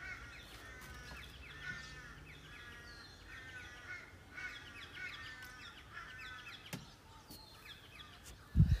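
Several crows caw in rapid, harsh bursts of repeated calls over a steady outdoor hiss, ending with a brief low thump.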